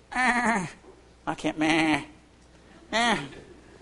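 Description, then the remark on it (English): A person mimics a billy goat with three wavering, nasal bleats, the middle one broken into a stutter before stretching out, loud with short pauses between. “I'm more like a billy goat than a lamb.”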